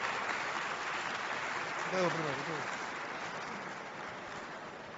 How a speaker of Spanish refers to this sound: Vamos a recibirla de pie, por favor, como ella se merece, con un aplauso que se sienta y que se escuche en todo el mundo.